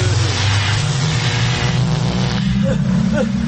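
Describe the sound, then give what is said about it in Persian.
A loud, continuous sci-fi time machine effect: a steady low mechanical hum under a dense whooshing roar, rising and wavering like a revving engine for the whole few seconds. “برو بریم ماشین زمان تو که هوا پسه.”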